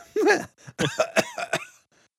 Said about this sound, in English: I knew it was you. You were coughing.